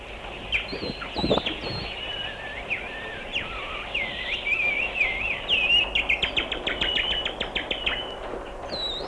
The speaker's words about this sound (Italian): Il bosco con tante ombre e sussurri e fruscii e profumi da indurci a penetrare in esso, nel suo cuore segreto. E all'improvviso, melodiosissimo, il canto degli uccelli.